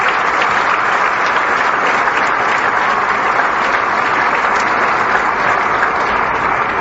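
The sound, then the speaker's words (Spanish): Sustained, loud applause from a large crowd, a dense steady roar of clapping hands that holds at an even level for several seconds with no voices standing out, given to young people for their commitment to education. “Muchas felicidades y un gran aplauso por esa convicción y ese compromiso que tienen todos ustedes.”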